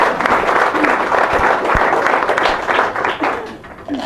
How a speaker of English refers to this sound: That's why we have to support these crisis pregnancy centers, Embrace and Better Choice and what. Thank you. Give it a big round of applause. There. Thank you.